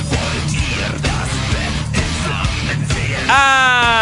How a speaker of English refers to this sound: Ah! Very passionate scream. Ah, yes.